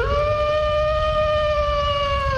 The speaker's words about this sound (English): Oh, I need to find my wolf sound effect. That's what I need. Hmm. Toby, where do you reckon it is? Breakfast, no. I used to have it on my page at all times for whenever I said Rich Wolfenden, I'd play a wolf sound effect.